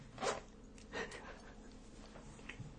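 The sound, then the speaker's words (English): A zipper being unzipped, heard as two quick raspy pulls close together with a softer zip trailing after, fairly quiet with no talking. “Was that a zip unzipping? That was a zip unzipping.”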